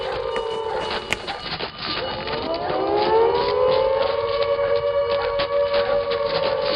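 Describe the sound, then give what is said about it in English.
The alarm siren of the Stalag 13 prison camp starts up after a prisoner is found missing, its loud wail climbing steadily in pitch before holding a sustained, droning tone, with no voices over it. “One prisoner... Well? ...is missing. Alarm! Alarm!”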